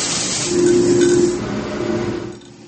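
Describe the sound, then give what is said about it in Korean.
A large, computer-automated coffee bean roasting machine in a coffee shop runs with a steady low drone and a broad rushing hiss, loud, swelling briefly in the middle before dropping off near the end. No one speaks. “데이비 씨의 가게는 집에서 커피를 내려 먹는 작은 기계가 아닌 커피 원두 자체를 볶는 대형 기계를 갖춰놓고 있는데요.”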